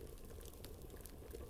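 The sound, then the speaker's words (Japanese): A clay-pot hot pot of chicken, white fish and tofu in clam broth simmers steadily, a dense bubbling burble with small pops and crackles rising through a continuous low rumble, fairly quiet, with no voices. “グツグツグツあったか土鍋料理だよ。”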